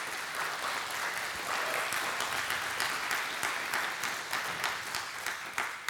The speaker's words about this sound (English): I hope you're clapping for yourself too.